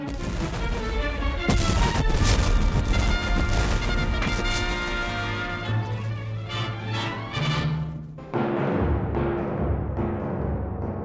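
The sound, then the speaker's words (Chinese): A dense, loud barrage of cannon fire and bursting shells from the 9 March 1862 naval battle between the warships Virginia and Monitor, heavy booms and crashes overlapping almost without pause, with one sharp blast standing out near the end. Nobody speaks. “两艘战舰里面的水兵被噪声、热气和烟雾困扰，他们发射的火炮声音巨大，敌军火炮爆炸声更加是震耳欲聋，有些人耳膜被震破”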